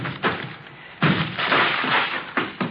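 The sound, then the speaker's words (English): A door is broken down with a series of heavy crashing blows, followed by a longer burst of rough splintering noise and a couple more thuds; no voices are heard. “Breaking down the door.”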